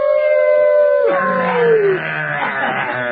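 A dog howls loudly, one long sustained wail that bends downward in pitch before trailing off into a wavering, mournful tail.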